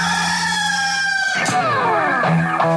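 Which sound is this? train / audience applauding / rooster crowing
rooster crowing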